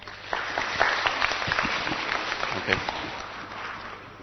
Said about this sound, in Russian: Хочет жить. Пожалуйста, аплодируйте.